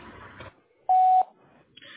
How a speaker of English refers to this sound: Leave your name and number at the sound of the phone, and I'll get back to you as soon as possible.